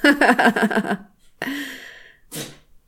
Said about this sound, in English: Bless you, little cat.